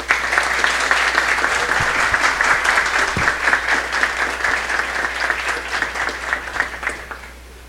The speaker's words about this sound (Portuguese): a quem pedimos uma salva de palmas